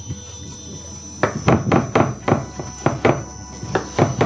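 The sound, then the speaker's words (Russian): A knife chops food into small cubes for tartare against a cutting board, without lifting the blade from the board, in a steady series of about ten quick, crisp thuds, beginning after a second of quiet background hum. “Не отрываю я нож от доски.”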